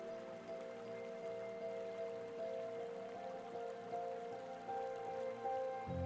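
Soft, steady trickling of water from a spring of pure, drinkable, crystal-clear water, a continuous gentle patter with a faint tonal hum underneath, no voices present.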